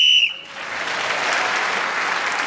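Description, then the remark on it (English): A sharp, shrill whistle blast ends a round of a panel game while Paul Merton is speaking, sounding for a split second and cutting off, immediately swallowed by a steady wash of audience applause that carries on to the end. “Paul Merton was speaking as the whistle went, gained an extra point for doing so”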